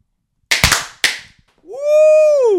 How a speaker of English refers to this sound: Where's the little popper thingy? Pop. All right. A desk pop. You ready, Joey? We got little poppers right here.